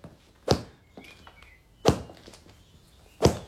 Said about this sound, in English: Must you horsewhip the furniture?